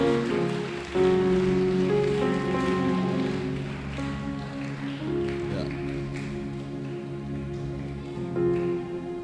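An audience applauds in a steady, dense wash of clapping that lasts throughout, with sustained musical tones, like an organ, playing underneath.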